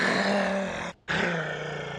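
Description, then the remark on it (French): A wolf, guardian of a sacred place, snarls and growls loudly in two rough, aggressive bursts separated by a brief pause as it attacks an eagle, with no talking. “Il pourra passer son temps à jouer sans se soucier de trouver de la nourriture, sauf qu'un loup gardien des lieux attaqua l'aigle.”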